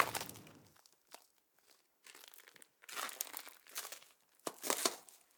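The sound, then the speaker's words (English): Papers of the kind needed to enter Libya being handled and crinkled, with irregular bursts of dry, bright rustling and crackling separated by brief quiet gaps, louder toward the end. No one speaks. “If you want to enter Libya, you don't have a lot of papers like this.”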